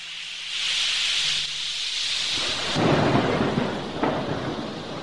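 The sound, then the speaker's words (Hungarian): A sudden storm at sea rages with a steady hissing rush of strong wind and rain tearing at a sailing ship's sails, then deep rolling thunder swells in about halfway through and rumbles on, loud. “Ekkor hirtelen beborult az ég, erős szél kerekedett, tépte, szakította a vitorla vásznait.”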